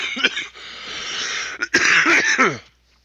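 A close, loud fit of coughing: a few sharp hacks, a brief pause, then a harsher, raspy burst of coughs that trails off into silence. No talking.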